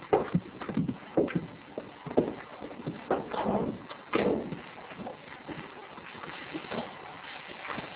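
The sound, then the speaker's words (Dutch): Irregular hoof clops from a horse walking on a hard stable floor, moderately loud, with soft shuffling and rustling between steps. “Blijven lopen, dat klopt dat ik op stal sta.”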